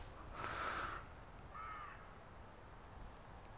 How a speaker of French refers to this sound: Petits corbeaux aussi.